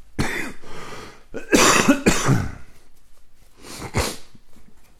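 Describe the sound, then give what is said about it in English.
A person with a cold lingering for about two weeks coughs in a series of harsh, raspy bursts, a cluster of three or four in quick succession, then a pause before a final couple of coughs. No talking. “Excuse me, I've still got the lingerings of this cold that's been hanging on for about 2 weeks now, seems like.”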